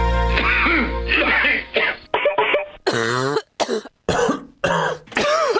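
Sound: coughing and throat clearing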